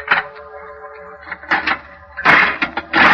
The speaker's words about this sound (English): I opened the door.